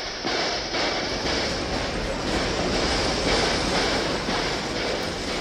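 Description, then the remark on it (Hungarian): A prisoners' train rumbles steadily at a railway station, with a continuous loud mechanical roar and faint rhythmic clatter of rail cars, no voices standing out. “A foglyok vonata, kérem.”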